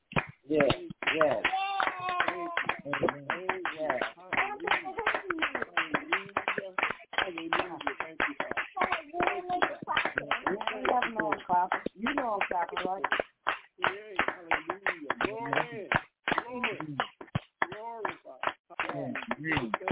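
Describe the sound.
An audience gives a hand clap of praise to the Most High, clapping steadily for about twenty seconds, many hands making a dense, continuous patter, with voices calling out and singing over the applause.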